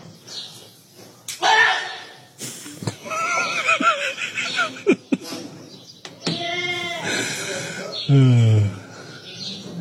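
goat screaming

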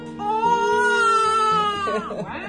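newborn baby crying

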